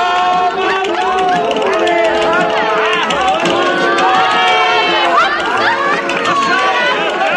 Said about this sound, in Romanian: Circul. Arena geme de lume. Oameni din câteva orășele s-au adunat astă seară la reprezentație.